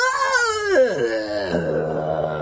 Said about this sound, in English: You move over to the crate marked "Evil Night" and start to loosen the straps holding it shut. It's still shaking a little, but the screaming has died down to a faint moan.